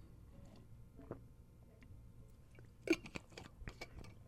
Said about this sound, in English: I got a sip of water here, I'm talking too much.